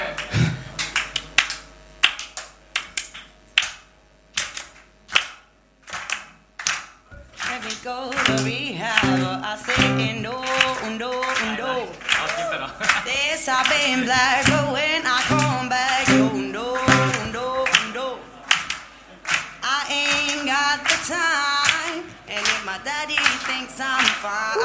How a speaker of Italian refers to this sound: Quindi si tratta semplicemente, durante il ritornello, di battere le mani, ok? Come? Così.